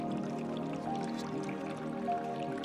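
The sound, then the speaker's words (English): Tea pours steadily from a teapot into an overflowing cup, spilling onto the table, a continuous trickle with faint drips and a gurgling resonance, heard on its own without any voices. “So, the master kept pouring and pouring and pouring the student's tea.”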